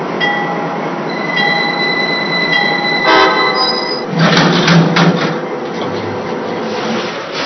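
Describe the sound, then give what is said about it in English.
The Southwest Chief passenger train, train number three from Chicago, rolls into Albuquerque station on track number one with loud rumbling and high, sustained wheel squeals, then a burst of clanking and hissing as it slows, with no voices. “Now arriving from Chicago on track number one. Train number three, Southwest Chief.”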